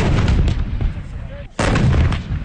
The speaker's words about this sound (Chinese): 巍巍昆仑山深处，炮声隆隆，硝烟阵阵，新疆军区某团组织的一场全要素合成体系攻防演练正在火热进行中。